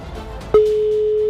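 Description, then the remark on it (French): A steady electronic telephone ringing tone starts abruptly after a brief click and holds one unchanging mid pitch, fairly loud, over faint background noise with no one speaking. It is a call placed to a contest finalist, ringing three times before reaching voicemail. “Trois sonneries déjà.”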